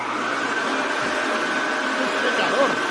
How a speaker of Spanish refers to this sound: Ferrari. Ferrari, escuchamos al SF15T de Vettel.